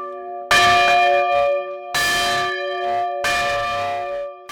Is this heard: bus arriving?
no